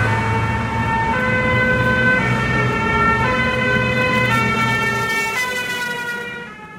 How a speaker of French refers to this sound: Voilà, c'est avec grand renfort de sirènes et de véhicules de sécurité que le nouveau ministre de la Défense vient pour cette visite officielle du grand chantier de ce qu'on appelle le Balargone, le Pentagone à la française,